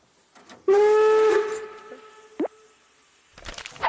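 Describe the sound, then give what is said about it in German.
A steam train whistle gives one loud, steady, high-pitched blast lasting under a second, followed by a brief squeak and a burst of hissing, clattering noise at the end. “Hey Leute, heute geht's um Züge. Volldampf voraus.”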